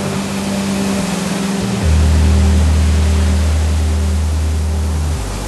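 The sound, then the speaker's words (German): A giant floating dredger working around the clock lifts raw gravel from 44 to 46 metres deep. Its heavy engine drones low and steady over a constant broad rush of water draining off the gravel. The hum deepens and grows louder partway through, with no voices. “Rund um die Uhr holt dieser riesige Schwimmbagger den Bodenschatz ans Tageslicht.”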